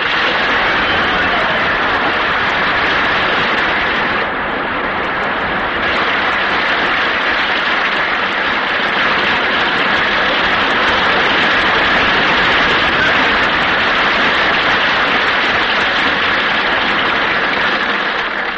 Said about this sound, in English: Hey, Bing, he got more applause than we did when we came.